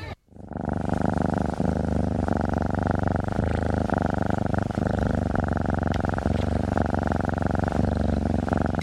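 A cat purrs steadily and loudly, a continuous rumbling drone that holds without pause for several seconds, with no voices over it.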